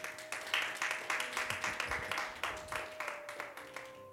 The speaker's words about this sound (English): Come on and clap your hands right now in Jesus' name.